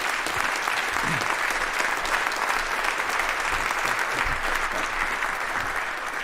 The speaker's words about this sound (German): Noch einen erneuten warmen Applaus, damit ich mich schnell vom Acker machen kann.